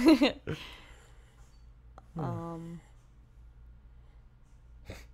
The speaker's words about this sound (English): Our dog's dreaming really epically. She's having some nightmares.